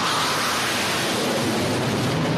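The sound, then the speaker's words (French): A Rafale fighter jet roars overhead while taking off from a runway, a loud, steady, hissing wall of engine noise that stays level throughout, with no voices. “Je me rappelle par exemple de ce direct depuis une piste de décollage de Rafale. Et vous l'entendez juste au-dessus de moi, vous allez sûrement le voir.”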